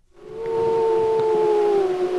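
gray wolves howling

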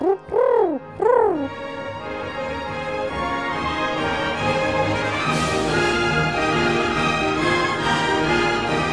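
pigeons cooing

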